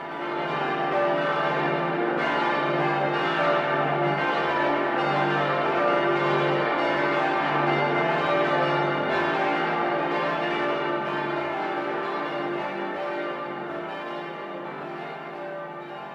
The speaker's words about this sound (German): Seit 2003 kann das neue achtstimmige in Karlsruhe gegossene Geläute wieder die Jesaja-Worte vom Umschmieden der Schwerter in Pflugscharen in die Welt tragen